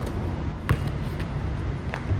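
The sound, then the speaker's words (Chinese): During shooting practice, a player bounces a basketball on a hard court a few times in place instead of dribbling into a turn, with sharp thuds spaced about half a second apart over steady background noise. “不是拍球轉身，他原地拍球做什麼？”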